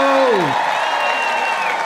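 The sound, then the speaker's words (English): A live audience at the Apollo Theater in Harlem, New York cheers and applauds loudly and steadily, whoops and shouts rising over a dense wash of clapping, just after a voice trails off at the start. “We got a live crowd.”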